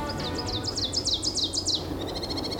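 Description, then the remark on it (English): Birds chirp at Wisconsin Point during an unusually busy spring migration, in a quick run of bright, downward-sliding notes, then break into a faster, buzzy trill, clear over a steady low background hum. “if it sounds like there's more birds than normal in our area lately, there are.”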